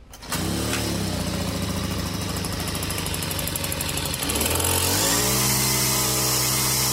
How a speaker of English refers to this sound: That weed whacker finally running good. All right. Just took forever.